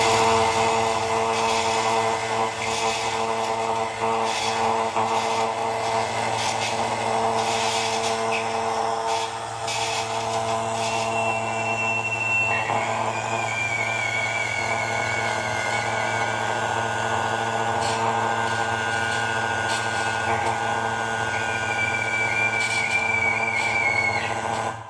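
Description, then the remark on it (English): A galena mineral crystal oscillator, built as a recreation of the circuit Oleg Loshev made and shown as an installation at Labor 19 in Berlin, hums with steady electronic tones and buzzy harmonics, then breaks into a thin, wavering high whine that slides and warbles, almost like a scream. No one speaks. “And this is what I managed to do with, again, a mineral of galena this time, that tries to oscillate, really tries. Then it does oscillate.”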